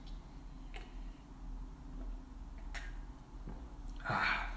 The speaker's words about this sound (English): Let me sip my water.